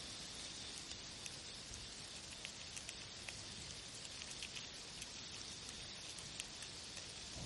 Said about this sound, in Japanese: 家の中から雨音がする。布団に入って耳をそば立てれば、屋外ではなく家の中心から雨のように音が響いてくるのを人へは感じた。薄い板壁を隔てて聞こえてくる雨音の正体は、何百何千という蚕が クワの葉を